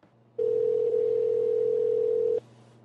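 A single steady ringback tone plays for about two seconds, a loud, even mid-pitched purr over a low background hum, then cuts off. No one speaks.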